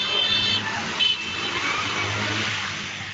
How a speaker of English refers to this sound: Yeah, that four-wheeler just cut down the middle of all six of those motorcycles. And they did it with ease.